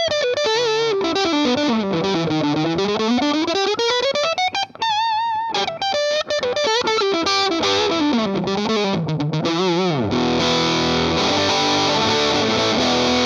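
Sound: guitar distortion pedal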